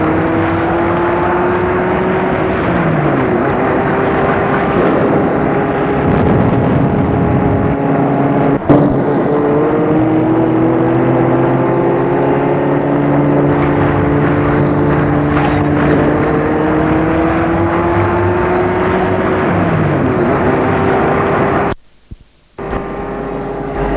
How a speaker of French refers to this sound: Et la voiture file, fonce dans les rues désertes et sombres de Paris.